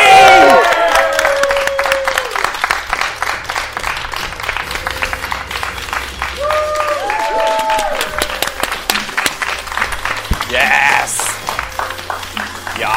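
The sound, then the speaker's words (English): An audience applauds loudly and steadily throughout as a contestant, a former women's champion, is introduced, with a dense patter of clapping and scattered high whoops and cheers rising above it at several moments. “How about a round of applause for a former Progress Women's Champion?”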